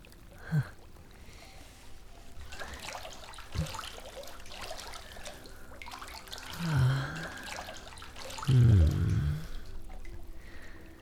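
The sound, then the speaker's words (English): Water sloshes and splashes as a person gets into the water to join another, with a couple of heavier surges and a few small drips, fairly quiet, no talking. “May I perhaps join you in the water?”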